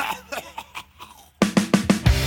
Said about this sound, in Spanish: planeta se llama Tierra y está un poquito enfermo. Tiene un ataque de tos,